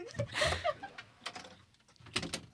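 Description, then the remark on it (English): A door is opened, with a squeaky creak, a few clattering knocks of the handle and latch, and a final thump, over a faint murmur of voices. “Can you open the door for me?”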